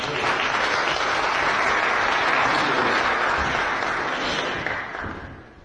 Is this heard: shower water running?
no